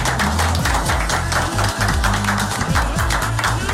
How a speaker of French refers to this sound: Égalité. Je pense qu'on peut s'applaudir, je pense. On peut ça. Bravo.